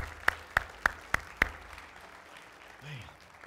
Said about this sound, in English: Golly. Don't you just want to clap? Don't you? I just tell you, you want to clap. Isn't that awesome?